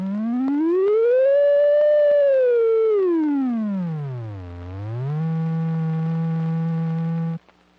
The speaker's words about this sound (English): The pitch or rate of oscillation of each waveform can be controlled. Pitch can also be controlled on the synthesizer by using a fingerboard.